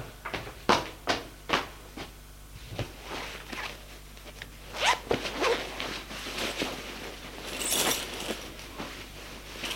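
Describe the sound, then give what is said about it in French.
Clothing sounds of someone undressing at home to take a shower: a quick zipper pull and fabric rustling, mixed with scattered sharp clicks and taps, no voices. “Il court se déshabiller pour prendre une douche.”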